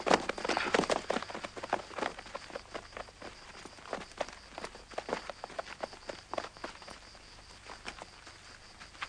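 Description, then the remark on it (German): Several horses' hooves clip-clop in an uneven, overlapping patter, steady for the whole stretch, with no voices. “Los, absitzen. Zwei Mann bleiben bei den Pferden.”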